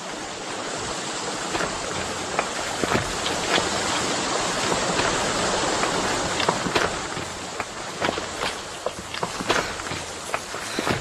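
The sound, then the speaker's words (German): A waterfall rushes with a steady, dense roar, while quick, sharp footsteps patter over it as two people run up to it on a forest run before breakfast. “Gabi und Tarzan rannten bis zu einem Wasserfall.”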